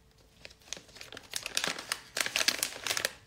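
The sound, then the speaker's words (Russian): Packaging being unwrapped, with dense, irregular crinkling of plastic or paper that starts quietly and grows louder in bursts of crackly rustling, with no voices. “И будет распаковка.”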